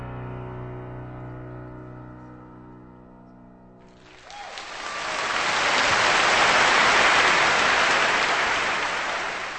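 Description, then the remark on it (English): A sustained piano chord rings and fades at the end of Chopin's Scherzo No. 1 in B minor played by pianist Mikhail Pletnev, then a large audience breaks into loud, steady applause for the pianist that swells and continues to the end, with no talking. “Applause for the pianist Mikhail Pletnev, bringing us one of the many great piano creations by Friedrich Chopin's Scherzo No.”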